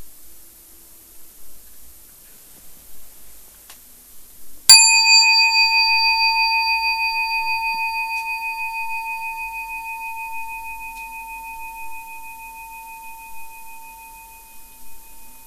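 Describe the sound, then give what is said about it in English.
A single meditation bell is struck once to mark the beginning of a sitting, over faint background hiss, producing a clear ringing tone with bright overtones that sustains and slowly fades for about ten seconds. “I'll ring a bell to indicate the beginning of the sitting, and at the end I'll ring the bell 3 times to indicate the end.”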